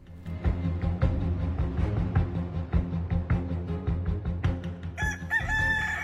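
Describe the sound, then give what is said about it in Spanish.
A rooster crows loudly near the end, a bright, wavering cock-a-doodle-doo following several seconds of thumping, rhythmic music, in a radio advertisement for Kikiriki Bingo Progresivo at Ocean Casino. “Levántate con el mejor bingo del oeste. El divertido Kikiriki Bingo Progresivo te espera todos los días a las 10 de la mañana en Ocean Casino”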